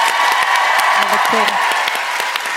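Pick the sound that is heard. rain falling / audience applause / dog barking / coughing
audience applause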